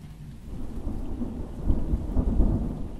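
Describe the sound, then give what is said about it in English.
Low, rolling thunder rumbles through steady rain on a stormy night, swelling louder toward the end as the storm builds, with a constant hiss of rainfall underneath and no voices. “Yes, it's a stormy night. But soon thunder will be away, and only the soft sounds of rain will remain.”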